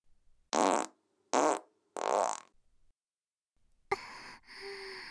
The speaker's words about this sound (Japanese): スカートの中どんどんおなら臭が濃くなっていくよね。あー臭い。スカートからガスが漏れてこっちにも匂ってくる。